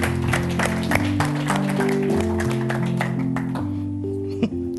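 A crowd applauds with dense, steady clapping over sustained organ or keyboard chords, the clapping thinning out toward the end as the music holds.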